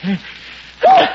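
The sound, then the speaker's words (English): A single sneeze: a short voiced intake and breathy buildup, then a loud, sudden burst of sound that cuts off quickly. “Bless you.”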